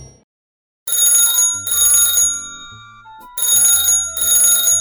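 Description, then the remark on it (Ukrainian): A telephone rings early in the morning in four loud, evenly spaced bursts of bright, shimmering bell-like trilling over lower melodic tones, with no one speaking. “Ой, хто ж це мені телефонує з самого ранку?”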